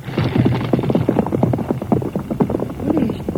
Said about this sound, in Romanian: Ai dreptate, pe cai, gata, galop!